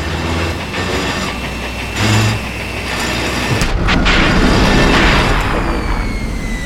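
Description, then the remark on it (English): A heavy mining drill grinds and rattles with a steady low rumble, then lurches with a harsh clanking jolt partway through as it hits a snag again, continuing to strain noisily afterward. “The drill hit a snag again.”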